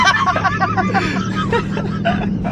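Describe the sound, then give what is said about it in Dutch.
A steady low rumble of road and engine noise inside a moving car runs throughout, with several voices talking over it. “Hey, ik kan gewoon alles zeggen hier in die auto.”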